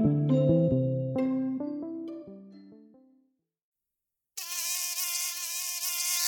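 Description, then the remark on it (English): A short descending musical phrase fades into silence, then a loud mosquito whine starts abruptly and drones on steadily with a slightly wavering high pitch until the end. “not all mosquitoes are malarial, obviously, yes?”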